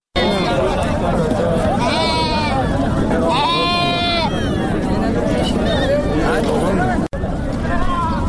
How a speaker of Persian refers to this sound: گنج بازار یا بازار فروش مواشی در اندخوی فاریاب میزبان هزاران حیوان از جمله گوسفند و گاو است.